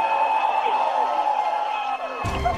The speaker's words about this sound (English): And you can hear the excitement in the crowd here.